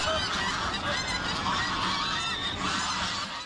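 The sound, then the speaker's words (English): A flock of feral geese at Western Springs honks continuously and loudly, overlapping calls forming a dense, noisy chorus with no pauses and no voices. “Gaggles of feral geese are the first thing you see or hear upon arrival at Western Springs.”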